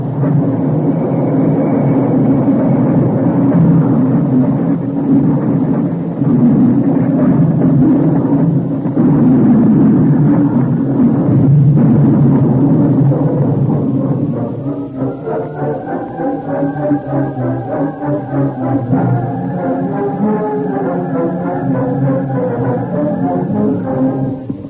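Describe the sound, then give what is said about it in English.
A runaway train wreck sound effect in The Lone Ranger radio drama: a loud, heavy roaring rumble for about fourteen seconds, then a steadier rhythmic chugging with a sustained high, whistle-like tone. No one speaks. “Companion had seen the runaway train from a distant hill and had ridden to the scene of the wreck at top speed.”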